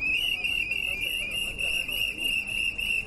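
Members of the Asociación Consumur, wearing hats, blow whistles nonstop at the doors of the Carmen train station in protest over poor rail connections with the region. The whistles make a shrill, wavering wall of sound that stays loud, with a busy murmur of people underneath.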